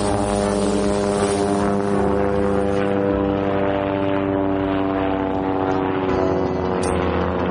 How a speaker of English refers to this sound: helicopter. Watch out.